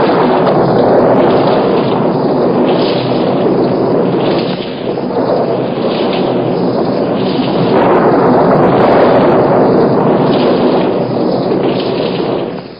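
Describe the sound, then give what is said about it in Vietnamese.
A dense, roaring storm with rumbling thunder that swells and rolls continuously, loud, with no voices present. “Chúng gây ra một trận bão khủng khiếp và phóng những tia sấm sét xuống quanh ngài.”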